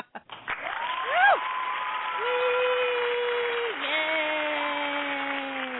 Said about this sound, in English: I do have some applause. Wait, where's my applause?